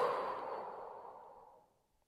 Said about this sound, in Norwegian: Da begynner vi med å puste. Inn. Og hold pusten. Og pust ut.